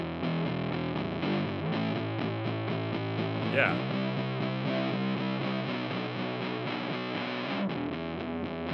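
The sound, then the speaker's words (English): A heavily distorted electric guitar plays sustained, gritty chords with a dry, unreverberated tone, with reverb turned all the way down and the distortion side turned all the way up, and a man briefly says a word midway through. “Here's reverb all the way down and then the distortion side all the way up.”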